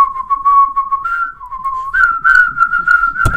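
Someone whistles a short melody up close, holding steady notes that step up and down in pitch, with a sudden loud thump at the very end.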